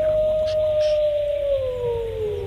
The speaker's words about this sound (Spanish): ¿Un lobo? Yes. El lobo. Un lobo. El lobo.